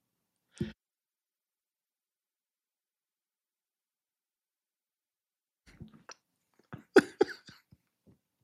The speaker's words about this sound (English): No proverbs about sneezing, at least not that I know of, but I didn't want to have to make you suffer through that one.